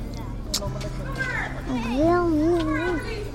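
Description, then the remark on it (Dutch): Children's voices chatter and call out in a busy outdoor school playground on the day the school reopens, with one high, wavering child's cry rising clearly above the steady background hubbub. “En dus zijn we onderweg naar het schoolplein.”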